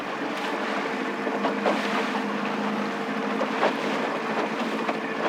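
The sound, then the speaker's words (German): A small sailboat with a small triangular sail, set by a fisherman heading out to sea to fish, crosses open water, with a steady low rumble and washing hiss that stays constant and moderately loud throughout, no voices present. “Nun setzt er ein kleines dreieckiges Segel, um hinaus aufs Meer zum Fischen zu fahren.”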